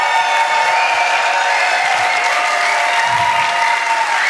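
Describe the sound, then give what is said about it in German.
A dense, steady wash of audience applause fills the whole stretch, loud, with faint cheering mixed into the continuous clapping, given after a speaker's closing words. “Und mit dem Schlusswort, meine Damen und Herren, einen großen Applaus”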